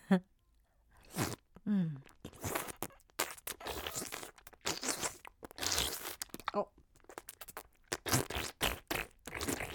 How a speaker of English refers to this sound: I want to see you chew on my panties. That's it. Go ahead and chew.